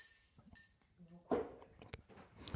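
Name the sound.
bottle being opened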